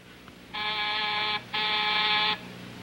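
A telephone in a hospital operating room rings in two long, bright bursts separated by a short pause, each a steady buzzy trill that cuts off cleanly; a surgeon leaves the patient to pick it up. No one speaks.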